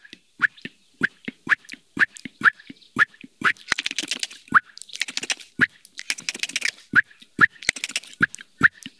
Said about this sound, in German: Vor allem als Katzenalarm. Und der Hausrotschwanz lebt dort, wo wir wohnen.